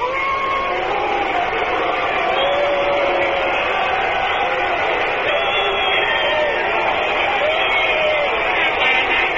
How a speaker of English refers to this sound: Partisan crowd here in San Francisco getting on little Elio. He was in the fight with Willie Mays out around second base.